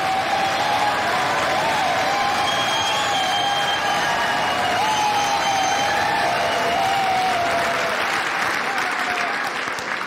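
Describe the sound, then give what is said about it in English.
Loud, sustained standing ovation from Republicans in the US House chamber after Hakeem Jeffries says Donald Trump was elected 47th president, a steady dense roar of clapping with scattered cheers and whoops on top, continuing unbroken for the full ten seconds. “A standing ovation by the Republicans.”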